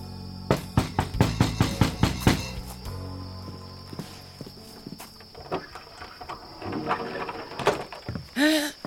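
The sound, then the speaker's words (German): Someone knocks on the door of Frau Meisenpretzel's wooden hut in a quick, steady run of about eight sharp raps, followed by softer shuffling and scattered low thuds. “Dort klopfen nämlich Isabelle und Sarah an die Hütte von Frau Meisenpretzel.”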